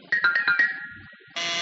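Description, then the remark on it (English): A back door buzzer sounds, first as a quick series of bright ringing pulses, then a loud, steady buzz that holds to the end. It's clear, with no one talking. “Oh, excuse me, that's the back door.”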